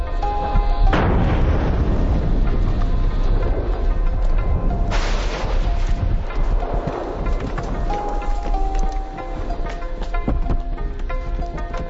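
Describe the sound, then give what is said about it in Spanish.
Volcanic lava eruption explosions at night: a loud, continuous low roar with sudden booming blasts bursting out near the start and again midway, dense, with no voices. “Los expedicionarios fotografían las impresionantes explosiones de lava.”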